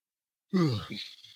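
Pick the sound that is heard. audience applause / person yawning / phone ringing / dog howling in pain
person yawning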